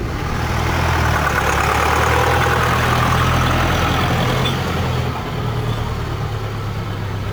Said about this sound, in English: After a ride of about a kilometer, the bus arrives at the factory.